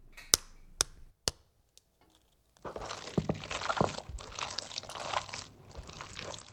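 The first egg is cracked with three sharp taps against a bowl, then after a short pause the ingredients are whisked steadily and briskly, a busy scraping rattle that keeps going to the end. No one speaks.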